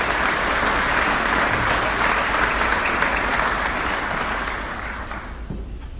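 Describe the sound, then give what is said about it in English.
A crowd at an AFL club event applauds the coaches and players in a dense, steady roar of clapping that holds strong for about five seconds, then thins and fades toward the end. “Round of applause for all the coaches and players.”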